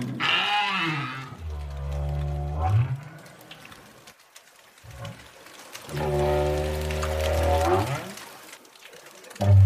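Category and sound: animal, southern right whale vocalizations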